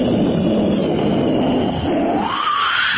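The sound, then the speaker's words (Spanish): A person vocally imitates an airplane engine warming up, producing a continuous, loud rumbling drone with a rising whine toward the end, without speech. “Pero si usted le agrega el sonido, sí, el sonido que brutal, que va, sí, las... va calentando los motores. ¿Cómo hace un avión?”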